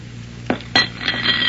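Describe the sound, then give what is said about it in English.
A plate of turkey and dressing and a glass of water are set down on a stool: two quick knocks, the second followed by a faint glassy ring, over a low steady hum with no talking. “So soothe your conscience with a piece of turkey and some dressing and a glass of water, jailer. Put it on the stool.”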